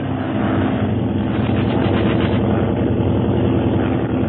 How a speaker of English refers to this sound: there's another plane bearing down upon them